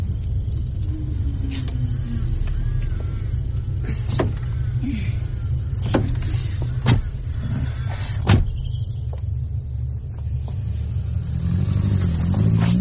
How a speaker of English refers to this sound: Where do we leave the car? It shouldn't be a problem. Where do we go? I'll park.